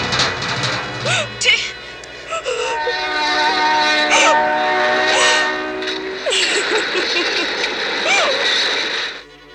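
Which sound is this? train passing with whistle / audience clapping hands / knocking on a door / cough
train passing with whistle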